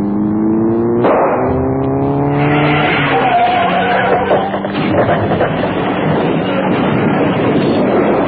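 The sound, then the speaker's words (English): A car that has been trailing behind roars, revving higher as it begins to overtake and surges past, then tyres skid and screech amid a loud, rushing rumble that carries on to the end. “There is a car in our tail, but whether it's following us, I don't... Wait a minute. It's beginning to overtake us.”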